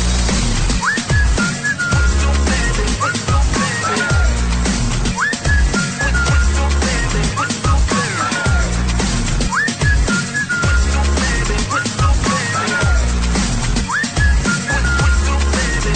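A short whistled melody with sliding notes repeats several times over a loud, steady electronic beat, sitting clearly on top of the dense backing music.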